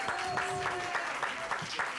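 Steady, dense audience applause fills the two seconds, many hands clapping at once in a continuous wash, with a voice or two calling out faintly over it.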